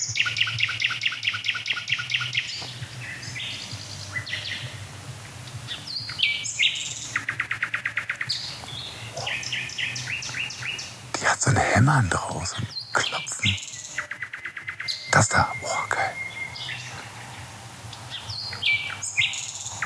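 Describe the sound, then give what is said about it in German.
A nightingale sings a loud, varied song, with rapid staccato hammering phrases of repeated notes broken up by whistles, rattles and sweeping trills, steady over steady background noise. “Und dann gehe ich mal rüber zu der Hotspot-Nachtigall-Amsel, die ich was gehört.”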